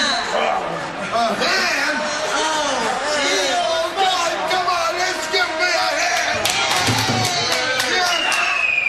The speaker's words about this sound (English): she cheers? Hang on, what happened? Like, she started cheering?